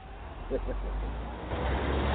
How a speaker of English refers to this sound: I stood at the station and watched as the bus drove off and disappeared into the snow.